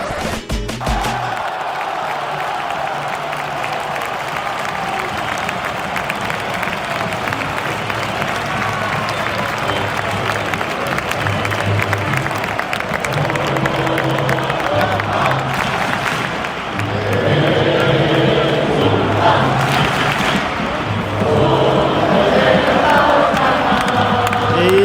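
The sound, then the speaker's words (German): A referee's final whistle ending FC Barcelona's 1-0 derby win over Espanyol, Xavi Hernandez's debut as coach, sounds over a loud, continuous stadium crowd roar of cheering and applause that swells even louder toward the end, with no clear talk above it. “Wie ihr hört, das war der Schlusspfiff.”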